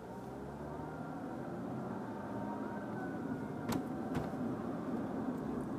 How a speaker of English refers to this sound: That's a proper fire truck. Truck, but it's still coming this way.